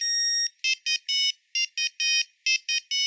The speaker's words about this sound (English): The first ringtones were monophonic, meaning that they were very simple approximations of the song they were meant to represent.